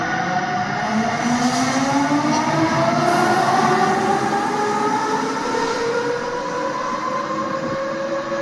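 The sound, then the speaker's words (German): An electric locomotive at the International Railway Technical Exhibition in Seddin runs steadily and loud, with rising tonal whines from its motors sweeping upward over a constant rumbling roar of wheels on track; no voices. “Elektro.”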